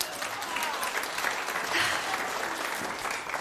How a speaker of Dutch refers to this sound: Nou, hartelijk applaus nog voor mijn bediende.